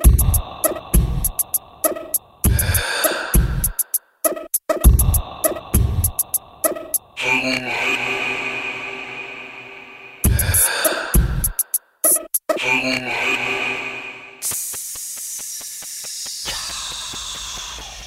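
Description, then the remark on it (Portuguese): Sounds inside a mother's womb as heard by the baby: deep, muffled heartbeat thumps pulse in a steady rhythm over a constant whooshing rush of blood flow, with passages of hissing and a low hum. No one speaks. “Dentro do ventre materno, o bebê ouve a pulsação do coração, a corrente sanguínea, o movimento do intestino e a respiração.”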